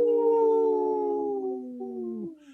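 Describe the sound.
A person imitates a wolf howl on the Native Roots Radio program: one long, steady, fairly loud tone that sinks slowly in pitch before cutting off after about two seconds.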